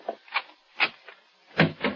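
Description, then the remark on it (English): A door up a hall being opened: a quick series of wooden clunks and latch rattles, with a heavier thump near the end, and no voices. “Open the other door,”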